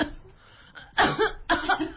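coughing

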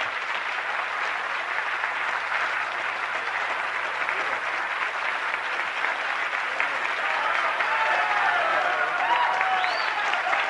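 audience applauding

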